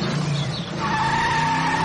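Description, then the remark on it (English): A sports car's tyres skid with a loud, sustained squeal over a rough engine rumble, the shrill screech holding steady for a couple of seconds. “After my mum had reversed the sports car out”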